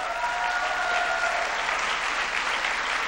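A crowd at Michigan State in East Lansing claps steadily for the person who gave the introduction, a dense, sustained burst of applause that holds at an even, fairly loud level for a few seconds, with faint tonal cheering early on and no talking.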